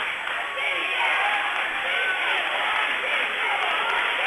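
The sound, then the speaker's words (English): A big stadium crowd clapping and cheering at a Vikings football game, a dense, steady wash of noise that holds at an even loudness for the whole few seconds without any clear breaks. “Crowd's up. … filming, it's clapping.”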